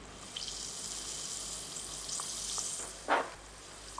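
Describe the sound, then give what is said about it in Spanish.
An effervescent tablet is put into a glass of water and fizzes steadily, a soft crackling hiss, with a brief louder splash or clink near the end. “Ya en bragas y camisa pone una pastilla efervescente en un vaso de agua.”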